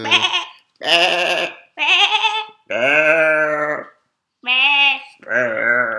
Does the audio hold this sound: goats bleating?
yes